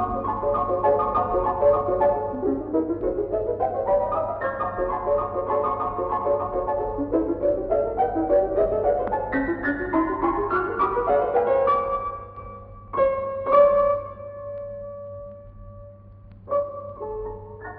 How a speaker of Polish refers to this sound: Ale posłuchajmy teraz fragmentu oryginalnej wersji, tym razem na fortepian.